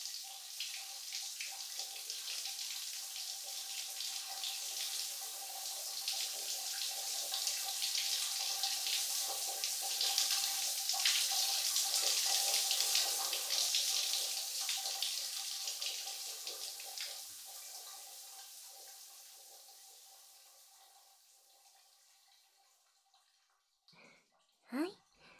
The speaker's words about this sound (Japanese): 泡が残らないよう、まんべんなく背中を洗い流してっと。